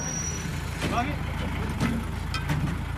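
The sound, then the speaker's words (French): A truck engine rumbles steadily, a low, continuous drone of a moving truck on a patrol with the Lebanese Armed Forces in a valley a few hundred metres from Israel, with faint muffled voices and occasional rattles over it. “Il se déplace en camion.”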